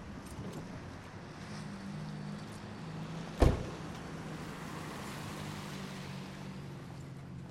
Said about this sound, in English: She stares at a combination KFC, Pizza Hut, and Taco Bell and shakes her head as she drives past. Mavis parks her car in front of Woody's Village Saloon and walks toward the entrance.